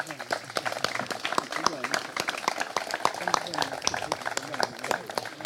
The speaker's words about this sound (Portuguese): Ele hoje foi para a Alemanha, foi lá buscar o título de vice-campeão do mundo de maratonas, e nesse sentido eu também lhe pedi uma salva de palmas.